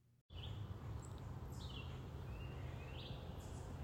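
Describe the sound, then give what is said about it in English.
Several goldfinches and titmice call in the morning in short, high chirps and rising whistles, scattered over a steady outdoor hum of ambient noise, with no one speaking. “We've got quite a variety of birds this morning. We've got goldfinches and titmice.”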